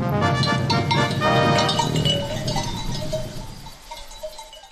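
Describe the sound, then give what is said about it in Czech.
A flock of sheep on a pasture of the village of Hrastićevo on a sunny autumn morning, neck bells clinking and jangling steadily with soft animal noises, the busy jingling thinning out and fading toward the end. “na pašnjacima sela Hrastićevo, gdje nas očekuje Ahmed s ovcama”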